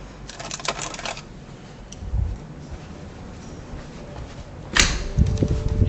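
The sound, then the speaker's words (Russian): A pencil is picked up and put to use: a flurry of light scratchy taps, a pause, then a sharp click and soft handling knocks, with no one talking. “Карандаш возьму, все украли.”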